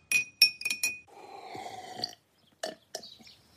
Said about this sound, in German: Ich nehme jetzt die gelben Blüten aus dem Glas und lasse einen Teelöffel Honig hineinfließen. Nun mit heißem Wasser aufgießen und kräftig umrühren.